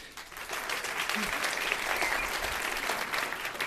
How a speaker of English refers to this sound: Applause on the radio. I never get used to that.